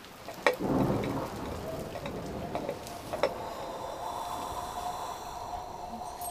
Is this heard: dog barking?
no